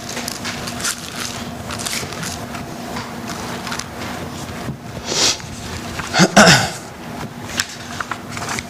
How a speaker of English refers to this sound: Even that gets recorded, my sniffles.